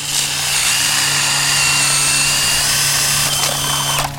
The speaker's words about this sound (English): Mark Leary drills into the ice nearby to see how thick it is. As he drills closer to the open water, the ice gets thinner.